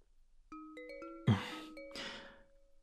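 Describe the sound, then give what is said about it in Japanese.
The ringtone of the Jiimu (ジーム) app for an incoming call: a short melodic chime of bright, quick electronic notes, followed by longer sustained tones with two brief rushing noises, clear and without voices. “何の音？って、ああ、ジームの着信音か。切っておけばよかったな。”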